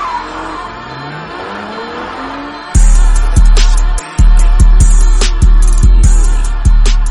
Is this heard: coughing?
no